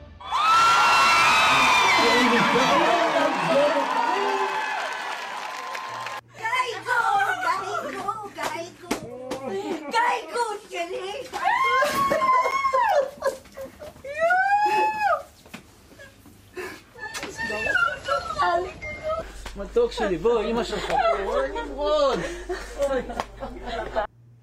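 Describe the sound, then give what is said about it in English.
A large crowd in Tel Aviv, Israel erupts in excited shouting, cheering and high wavering cries of joy and relief as Hamas releases the last 20 living Israeli hostages, with overlapping voices whooping and wailing emotionally throughout, loud and chaotic. “Those were shouts and tears of joy, joy of answered prayers coming out of Israel, relief and celebration in Tel Aviv as Hamas released the last 20 Israeli hostages who were still alive.”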